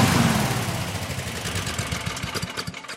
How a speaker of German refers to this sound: Heute geht's bei uns um Überdruckbelüftung, wie ihr ja schon gehört habt. War ja auch fast nicht zu überhören. Stefan meinte ja, wir sollen das Intro vor dem Überdrucklüfter aufnehmen.